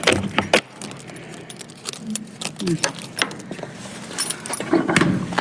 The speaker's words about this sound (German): Und jetzt öffnet sich die Tür und man sieht die Dicke der Wand, also über 2 Meter teilweise dick.